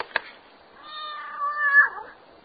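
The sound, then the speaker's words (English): A single drawn-out meow from a very plump, playful black cat called Catkin, rising and then falling over about a second, heard fairly clear after a brief click, with no talking. “Very plump, playful black cat called Catkin.”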